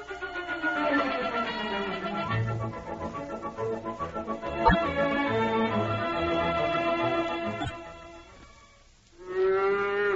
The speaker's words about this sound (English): That's Bossy the cow.